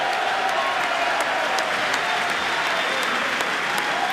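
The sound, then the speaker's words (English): Republicans in the chamber during a joint session of Congress applaud loudly and steadily, a dense wash of clapping mixed with scattered cheers, sustained without pause throughout and echoing in the large chamber. “That getting a cheer now from Republicans in the chamber.”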